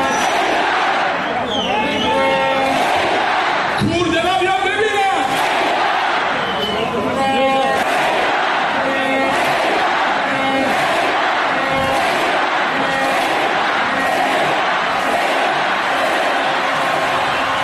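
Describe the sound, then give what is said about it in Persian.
A large crowd of football fans chants and cheers loudly and continuously in the Icelandic style. Rhythmic shouted calls rise over a dense roar of many voices. “آها، میفرمایند سقوط نمیکنه چون طرفداراش ایسلندی تشویقش میکنن.”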